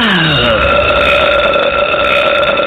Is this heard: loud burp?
yes